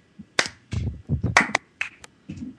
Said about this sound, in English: God, I'm way better at sardonically clapping at myself.